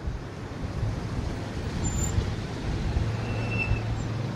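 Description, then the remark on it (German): Steady low rumble of stop-and-go road traffic on the Bridge of the Americas border crossing between Ciudad Juárez, Mexico, and El Paso, Texas, with idling engines and heavy vehicles, a faint brake hiss or squeal now and then, no voices, continuous throughout. “Ein paar Meter fahren, dann bremsen und lange warten. Es geht quälend langsam voran auf der Bridge of the Americas, dem größten von 4 Grenzübergängen zwischen dem mexikanischen Ciudad Juárez und El Paso in Texas.”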